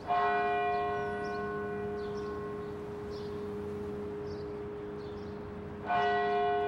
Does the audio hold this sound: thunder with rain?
no